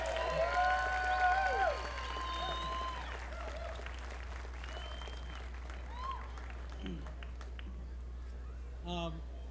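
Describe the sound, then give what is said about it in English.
An audience at a live music event breaks into sustained applause for a performer, a dense, steady patter of clapping lasting several seconds, slightly louder at the start with a few high whistling tones, then continuing evenly. “This was my first time to get to hear her and them perform, and I just want to call her out and ask you to please give her another round of applause.”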